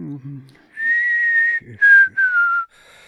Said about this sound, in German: Und darum schlenkerte er mit den Beinen und pfiff sich eins.